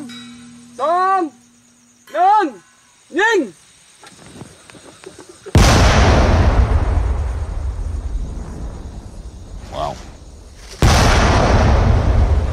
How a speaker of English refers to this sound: Organizations like UXO Lao are tasked with cleaning up the mess. You go with a metal detector, dig them out by hand, no machines, detonate them.